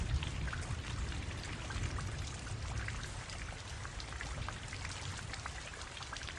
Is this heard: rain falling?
yes